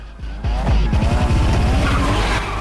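Loud engines roar and rev as a 350Z and a Mustang race along a winding road, with sharp tire squeals and skidding sweeping through in rapid, rising and falling bursts; no voices.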